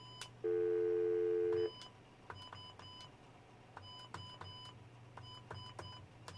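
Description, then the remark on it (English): A loud, steady phone tone holds for about a second, then a string of short, sharp keypad beeps taps out a number in uneven bursts over a low hum as a call is dialed to the studios, with no one talking. “Probably get that busy again.”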